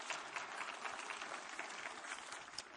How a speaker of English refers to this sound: Give one more good clap offering. What'd you do? Come on.